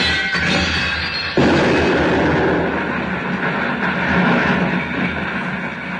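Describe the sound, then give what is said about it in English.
A suitcase bomb goes off after landing in a garden flower bed: a roaring rush of noise breaks into one sharp, heavy blast, then a dense crackling rumble carries on loudly to the end. No one speaks. “Oh, thank heaven it landed on one of the flower beds. It hasn't exactly improved the garden, has it?”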